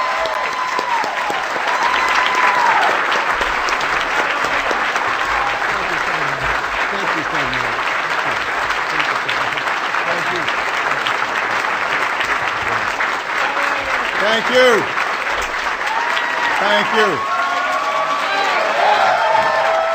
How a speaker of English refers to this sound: Ladies and gentlemen, it is my distinct pleasure to introduce to you today the 44th President of the United States of America, our President, President Barack Obama. Let's give a big, big round of applause.